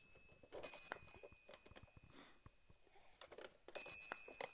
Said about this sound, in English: Watch this. What's that? You do that? Push on that and watch the bell go?